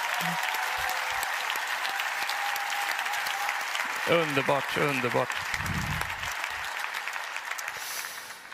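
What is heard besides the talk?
audience applause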